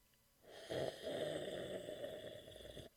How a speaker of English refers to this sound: Oh, I know what he's doing now. He's drinking coffee or something.